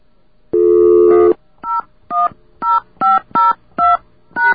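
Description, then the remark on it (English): Telephone keypad tones dialing the pound key and more digits: one long held dual tone, then six short, evenly spaced beeps, loud and clear with no talking. “He did say to try the pound sign thing, so let's try that.”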